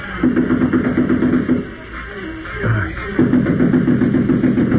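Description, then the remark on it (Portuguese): Two bursts of rapid, steady knocking on a door, loud, separated by a short pause, with a low rumbling background underneath; the door is locked from the inside, with light showing beneath it. “Luz por baixo da porta. Vamos bater, vamos.”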